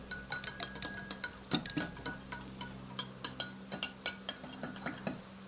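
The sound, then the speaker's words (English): A spoon clinks rhythmically against the inside of a glass while stirring, a steady series of bright taps with no voices present. “I'll stir. No, I can do it. All right, but I'll hold the glass.”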